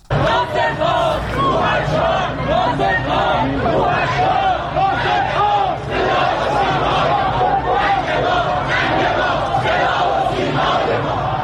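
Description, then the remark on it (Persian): A large crowd shouts and chants protest slogans together in a steady, loud roar of many overlapping voices, rising and falling in waves without pause, at the Sunday funeral procession in Tehran for veteran Iranian actor Naser Malek Motiei. “فریاد مردمی است که روز یک شنبه در تهران ناصر ملک مطیعی بازیگر پیشکسوت ایرانی را تا خانه ابدیش بدرقه کردند.”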